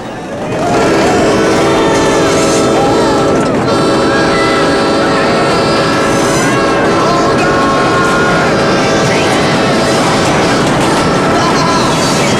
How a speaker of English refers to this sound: A train approaches the bridge, and the guys all headbanging shake their legs in excitement.